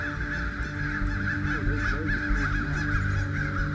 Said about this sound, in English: Whoa, what is going on with these birds?